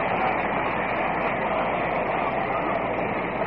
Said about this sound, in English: And listen to the crowd as Gil Hodges comes up.